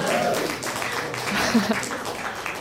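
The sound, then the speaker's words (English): A crowd applauds with steady, dense clapping for a few seconds, mixed with a murmur of voices and a brief cheer, in response to the answer 'a van made from cake' to the question of the best worst gift ever received. “Deserves a round of applause.”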